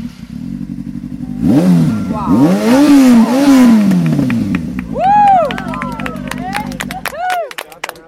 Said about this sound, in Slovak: Pozadí počujeme zvuky motoriek a nie je to náhoda, pretože aj nevidiaci skúšajú, aké je to sedieť na motorke a previesť sa.